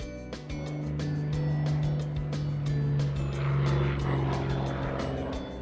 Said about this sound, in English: The airplane is so high. I wonder where it's going.